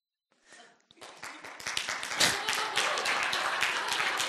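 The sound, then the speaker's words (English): Audience applause for a speaker ending his talk early swells from a few scattered claps into steady, dense clapping from a crowd, sustained to the end. “So the 2 times I get claps for the record are getting a new heart and ending early.”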